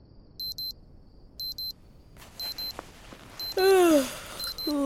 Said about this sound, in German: Währenddessen klingelt in einem der Zelte ein Wecker.